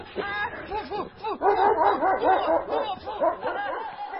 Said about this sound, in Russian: Из темноты слышится грозный собачий рык и душераздирающий крик Трафальдины.